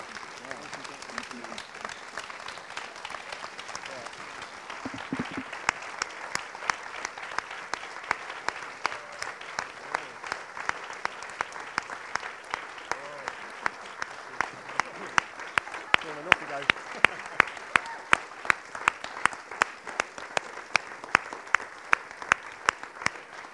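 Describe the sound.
A large audience claps steadily for over twenty seconds as a group of people leave, the applause dense and sustained, growing slightly louder and sharper toward the end, with a few voices faintly mixed in.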